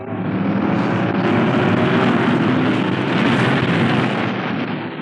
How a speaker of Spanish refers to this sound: El pequeño y veloz auto guiado por Jato cruza como una tromba.